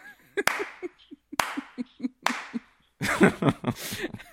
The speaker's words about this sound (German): Ja, klatschen!